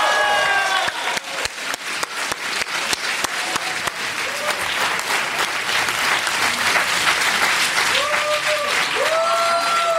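An audience applauds steadily with dense, sustained clapping, a few whoops and cheers rising above it, and scattered voices mixed in throughout.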